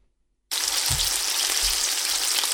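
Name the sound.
food sizzling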